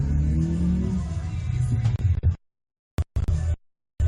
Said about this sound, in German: Wir haben ein Motor aufheulen gehört. Könnte natürlich sein, dass da Besuch vor der Tür war.